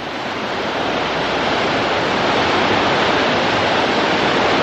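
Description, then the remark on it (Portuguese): Very clean water bubbles and rushes steadily like a small waterfall in a backyard, a loud, continuous wash of sound with no pauses and no voices. “Sentou-se vendo a água borbulhando e escorrendo como uma pequena cachoeirinha.”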